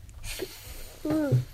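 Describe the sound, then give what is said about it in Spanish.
A voice imitates a snake's hiss with a short, breathy hiss, followed by a brief voiced, whining sound that rises and falls in pitch. “Bueno, ¿y qué sonido hace la serpiente?”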